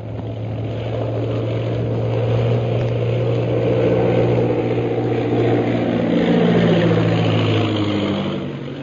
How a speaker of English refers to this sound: Following the example set by the leaders, the rest of the 15 planes of the Purple Triangle Air Squadron turn back from the ordered flight and land at the camp.